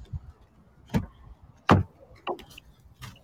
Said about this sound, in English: Now I hear the woman of God just close the door.